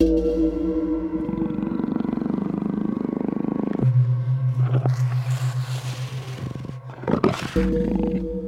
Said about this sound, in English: Coming up, the warning hiss of the Yule Cat.